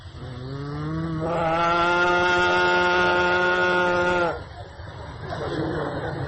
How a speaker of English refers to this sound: He would call each cow by its own personal name, and the cows, hearing Krishna speak the name, would respond by mooing very loudly.